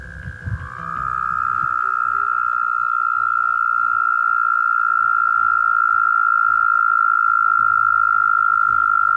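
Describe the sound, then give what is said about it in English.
Two large American toads trill together in Norwich in late May, a long, steady, high-pitched buzz, their overlapping calls sustained and continuous, with faint low rumbling in the background. “And this is what is most likely two massive American toads calling in Norwich in late May.”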